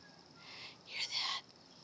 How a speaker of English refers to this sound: I know it's a little bit slow, but you can hear the little ones calling. Yep, there's a little nest of baby crows up here. And a protective mother and father.